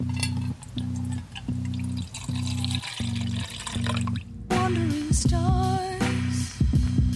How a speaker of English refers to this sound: It's water. I'm just going to pour some in a bowl.